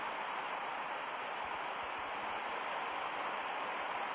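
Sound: rain falling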